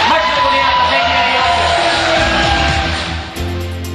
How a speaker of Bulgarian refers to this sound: Моля за вашите аплодисменти за господин Пламен Константинов.